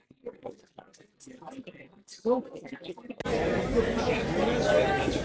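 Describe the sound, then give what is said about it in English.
A few seconds of someone talking give way to a sudden wall of loud crowd chatter, many voices overlapping into a dense, steady roar with occasional laughter. “It is so loud here, I can't even hear myself talking. Listen to this.”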